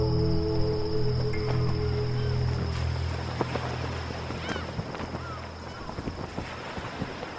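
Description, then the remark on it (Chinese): A steady cool sea breeze blows at East Sea Bay over a broad wash of outdoor noise, with a low humming rumble underneath and scattered faint clicks and splashes, moderately quiet and continuous, with no talking. “东海湾，杀破狼赶走栖息在此处的巨蛙，坐在岩石上，毒性所带来的燥热逐渐被清凉的海风吹散。”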